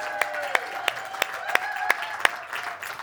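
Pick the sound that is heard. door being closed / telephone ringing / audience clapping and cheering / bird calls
audience clapping and cheering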